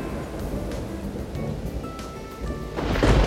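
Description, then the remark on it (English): A thunderstorm with deep rolling thunder rumbling steadily, rain hissing underneath, and the roar swelling louder toward the end. No one speaks. “There are thunderstorms today. I don't like thunder and lightning.”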